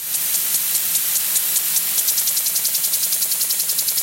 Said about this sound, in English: Wow. It's a sprinkler, isn't it? It's a sprinkler. It's water, more importantly.